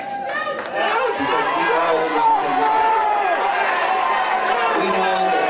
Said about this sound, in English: So the Republican governor of Ohio was speaking before a crowd of people trying to offer reassurances after the shooting, and people in the crowd started shouting at him and then chanting, "Do something."